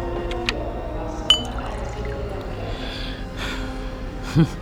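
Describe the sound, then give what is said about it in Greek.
Liquid pours into a glass as a woman refills her glass, a steady trickling fill punctuated by a few brief clinks and a short breathy gasp near the end. “Η … ξαναγέμισε το ποτήρι της.”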